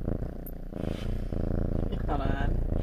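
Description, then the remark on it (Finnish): A steady low rumble of a black cat purring in a cottage runs continuously throughout, with a soft voice murmuring over it partway through. “Täällä on Esa, joka on toinen musta kissa, ja Esa hurisee.”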